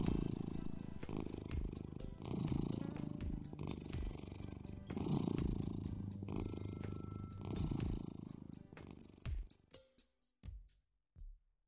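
A cat purrs, a steady rumbling drone that swells and eases in slow breathing cycles, then trails off into a few soft, separate pulses before going quiet.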